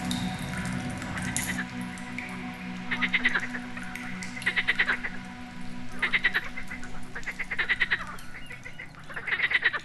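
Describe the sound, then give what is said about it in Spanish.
Frogs croak in a cave in repeated rapid bursts of clicking calls, several loud calls spaced every second or so over a steady low hum, with a slightly echoing feel. “Ahora, aquí en la frescura de la cueva, observa cómo las ranas saltan de piedra en piedra.”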